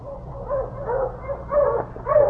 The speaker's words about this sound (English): For two more days, we stayed in the igloo, and then we heard the welcome sound of my dog team.